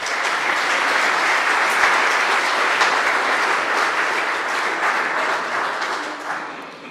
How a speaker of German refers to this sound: Okay. Nochmal einen kräftigen Applaus für euch alle.